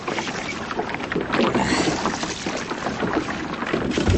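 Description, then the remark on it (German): Water sloshes and splashes against a boat hull as a diver climbs aboard with help from two people, with creaking and thumping movement and a steady wash of water noise throughout. “Helft mir mal ins Boot, ihr beiden.”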